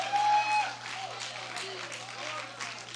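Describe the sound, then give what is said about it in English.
A crowd clapping their hands, a dense, steady patter of applause that fills all three seconds at an even level, with a low electrical hum underneath. “Just your clapping your hands like that.”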